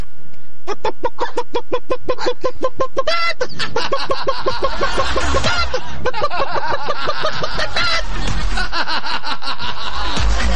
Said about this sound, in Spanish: Bueno, la gallina parece que como que vio a Pancho Saavedra. Ya, ese es el número uno, ese es el número dos, es la gallina.